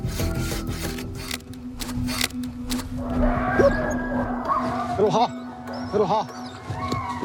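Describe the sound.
A hand saw rasps through a log in quick, regular back-and-forth strokes, then fades under a steady low hum while people talk.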